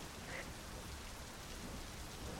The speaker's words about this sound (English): And the clouds grew dark, and the sky opened up. Rain upon rain upon rain.